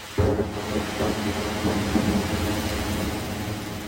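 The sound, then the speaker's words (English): A deep, continuous rumble of thunder rolls through a stormy sky during a thunderstorm, recorded on a phone held up, loud and sustained throughout, with a hiss of rain beneath and no voices. “He'd like voice noted some thunder that he heard. He'd held his phone up during a thunderstorm.”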